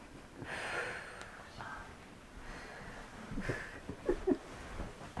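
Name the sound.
deep breathing exercise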